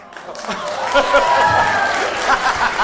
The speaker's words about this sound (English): I got a round of applause. First round of applause. Tick.